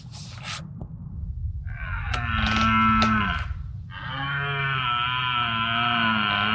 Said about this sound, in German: Er hat das Röhren der Hirsche aufgenommen.